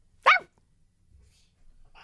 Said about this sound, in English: For those of you listening to the podcast, there's other dog barking. I'm just joining in on the dog bark chorus. That's not just me barking for no reason.